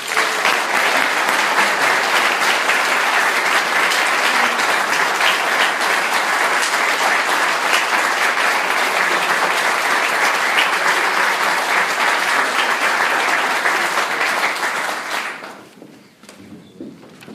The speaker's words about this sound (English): Let's please give a round of applause to Caden.